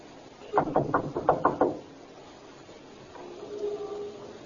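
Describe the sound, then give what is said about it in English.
About six quick, evenly spaced, firm knocks on a front door by police officers, then they stop, leaving a faint low murmur. “Knock. And stand aside.”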